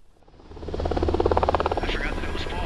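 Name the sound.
black Hawk helicopter flying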